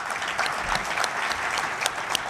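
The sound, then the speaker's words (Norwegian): An audience at an event for electrical managers claps steadily to thank a speaker after a talk on cyber insurance, a dense patter of many hands with sharper individual claps popping out, sustained and fairly loud for a couple of seconds with no talking. “Stor applaus, folkens.”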